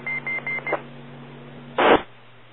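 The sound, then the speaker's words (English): Four quick, evenly spaced electronic time-out beeps from a handheld radio transmitter ring out over a steady low hum, then a short burst of static noise cuts in and fades. “I think the beeps are transmitted, and the first time you said time out, I don't know if you had to quickly unkey and key up, but interesting, the radio transmits the this time four audible beeps.”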